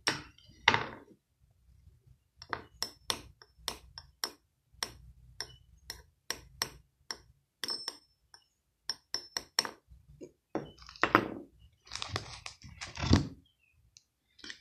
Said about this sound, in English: For the sound of a razor blade knocking against the tip of a screwdriver.